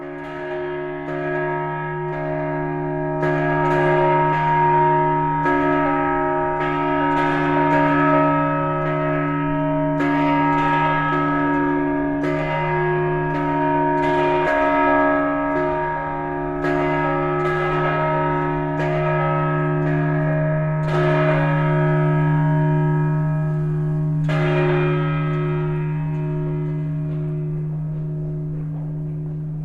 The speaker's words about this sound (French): L'on vient d'écouter les cloches de Venise, Place Saint-Marc, à minuit. Et c'est un son vraiment des Vénitiens, c'est-à-dire que c'est un son séculaire et c'est les seuls sons qu'on peut entendre